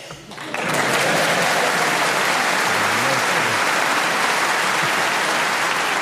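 An audience bursts into applause after a brief quiet start, the clapping swelling quickly into a dense, steady roar that holds loud and even to the end, with faint voices beneath.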